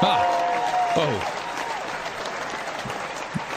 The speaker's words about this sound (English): A big cheer for a blue Monday.